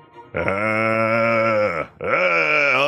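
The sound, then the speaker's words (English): A zombie-like voice groans out a long, drawn growl of "brains" in two loud, strained pulls: a sustained low moan, a brief break, then a rising second groan. “did I hear you growling brains?”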